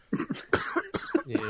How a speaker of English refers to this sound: And I'm going to mute myself while I cough.